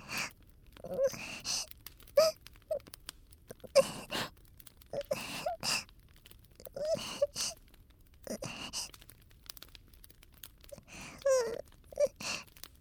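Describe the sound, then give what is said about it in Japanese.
A woman cries and sobs, with gasping breaths, wavering moans and shaky sniffles coming in uneven bursts separated by brief pauses. “で、急に泣かれても困るだけですよね。”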